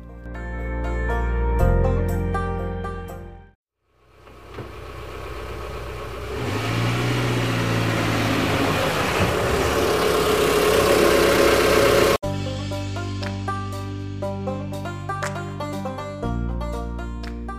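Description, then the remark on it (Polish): Between two stretches of gentle music, a car engine turns over, idles with a steady low rumble, then revs up loudly and the car drives away from a garage driveway just cleared of snow. “Kiedy oczyścił ze śniegowej zaspy wjazd do garażu, wsiadł do samochodu i odjechał.”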